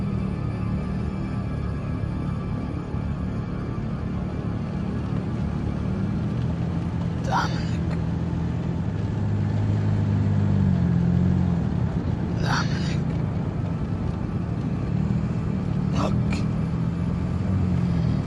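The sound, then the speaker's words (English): A car with a cracked windshield cruising along a highway: a steady, low engine and road rumble drones throughout, swelling slightly midway, with a few brief higher-pitched sounds breaking through. “In the car, Dominic squints through the cracked windshield as he drives.”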